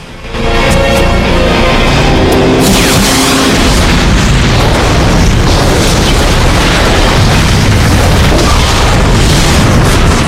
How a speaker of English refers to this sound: The huge blast takes out police cars and army jeeps.